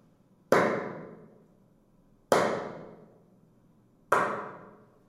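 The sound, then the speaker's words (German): Three sharp hand claps, made as a test sequence to excite and measure the reverberation of a room, evenly spaced about two seconds apart, each followed by a long, smoothly fading reverberant tail. No one speaks. “Ich werde jetzt dreimal in die Hände klatschen, um den Nachhall von dem Raum anzuregen.”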